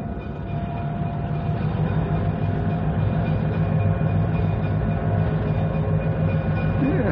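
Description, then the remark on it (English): An uncoupled locomotive rumbles steadily along the rails back to the yards with a low, continuous engine drone and faint mechanical hum, holding an even loudness throughout without any horn or voices. “Take the engine back to the yards.”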